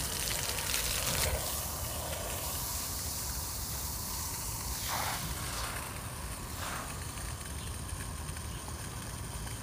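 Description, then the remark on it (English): A steady, hissing rush of running water flows over a hand without pause, its tone shifting briefly a couple of times as something moves through the stream. No one speaks. “Oh, this water feels so good on my hand, yo.”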